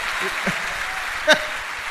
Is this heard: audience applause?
yes